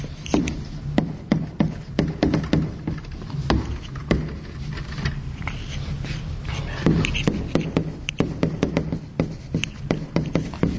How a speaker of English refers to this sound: So the physics example I showed you was this. So this is the bouncing ball.